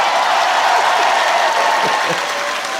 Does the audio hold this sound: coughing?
no